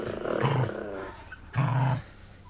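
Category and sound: animal, dogs growling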